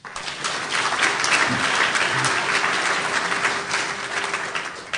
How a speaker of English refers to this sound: So again, a round of applause for tonight's guests, University of California President Janet Napolitano and UC President Emeritus Mark Udoff.